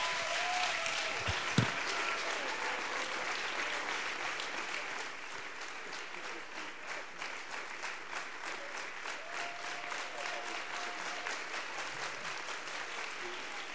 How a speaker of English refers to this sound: Come on, would you clap your hands unto the Lord in Jesus' name? He's an awesome God.